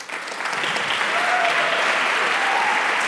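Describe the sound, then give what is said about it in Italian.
Sustained, dense applause and shouts fill the National Council chamber in Bern, Switzerland, marking the end of a speech, steady and fairly loud, with faint shouts and cheers rising through the clapping. “Intensi sono gli scrosci d'applausi, inarrestabili le grida che nella sala del Consiglio nazionale segnano puntuali il termine di un intervento”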